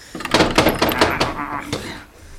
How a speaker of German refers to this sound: das Schubladenschloss ist offen. Zieh halt mal ein bisschen fester. Oder fehlt dir die Kraft?